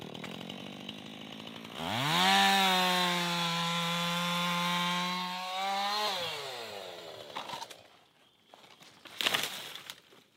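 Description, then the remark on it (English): A loud chainsaw revs up sharply, holds a steady high whine while cutting through a fallen pine tree on the Johnstone Trail in Tomales Bay State Park for several seconds, then winds down, followed by quieter rustling and thuds. “White hair, bright orange chainsaw chaps. I'm watching him remove a fallen tree from the Johnstone Trail.”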